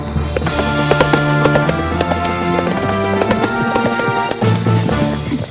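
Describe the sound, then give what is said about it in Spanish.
Horse hooves clip-clop in a steady, brisk rhythm of sharp knocks as riders set out for Dolores, heard over a layer of tonal background music that fills the whole stretch without pause. “Tome un caballo de refresco, que la tirada es larga hasta Dolores.”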